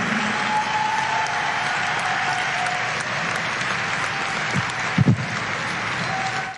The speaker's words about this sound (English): Will you please give a heartfelt and loving round of applause for all those that are honored?